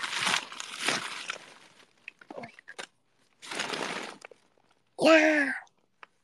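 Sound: wrapping paper crinkling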